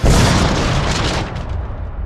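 A plane slams into a bus with a single loud, explosive crash that erupts at once and rolls on as a heavy rumble, its crackling top end thinning out over two seconds.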